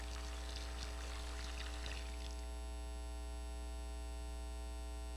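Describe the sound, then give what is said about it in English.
Water runs and splashes steadily for about two seconds, then cuts off abruptly, leaving only a low, constant electrical hum. Fairly quiet overall, with no voices. “Doesn't just hearing the sound of running water do something in our souls?”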